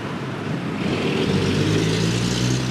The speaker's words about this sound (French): Ouais, on va essayer de passer devant cette énorme camion. Vous pouvez l'entendre là. Ah, vraiment des engins d'un autre temps là qui sont dans la circulation de Bangkok.